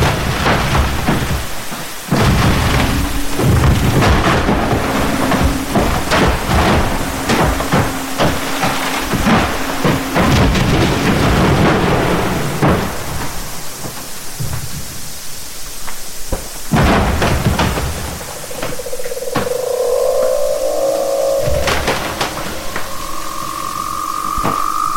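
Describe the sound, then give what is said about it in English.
Refreezing ice booming, thudding and cracking from the mechanics within the ice, with no surface sound, in a dense, loud percussive barrage of sharp cracks and deep thuds, later joined by eerie high whining tones. No voices are heard. “So that this wonderful percussive chorus of booms and thuds and cracking as this was happening around me in the sort of sea of sound, when everything else was silent.”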